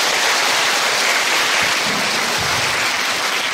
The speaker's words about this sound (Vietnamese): Nhất là hôm nay cũng có một số bạn mà suy nghĩ rằng chuẩn bị bước vào cuộc đời rồi, cho nên chúng ta có một tràng pháo tay để tri ân quý thầy.